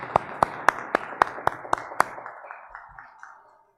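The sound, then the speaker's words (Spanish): Brief applause at an award ceremony for the author of a second-place research paper, sharp, evenly spaced claps, about a dozen in a steady rhythm, growing softer and thinning out before fading to silence within a few seconds, with no voices. “quien por favor pido y un aplauso.”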